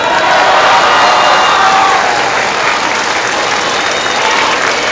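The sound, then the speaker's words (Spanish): A crowd breaks into sustained, loud applause with scattered cheers after a unanimous show-of-hands vote, a dense steady wash of clapping that holds for several seconds without letting up. “Por unanimidad. Un aplauso.”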